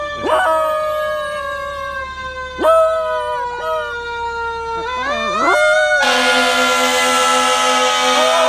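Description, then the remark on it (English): A pet dog howls outside in long, drawn-out wavering cries with rich harmonics, rising and falling several times, growing louder and more insistent near the end. “There's Vader. That's my dog.”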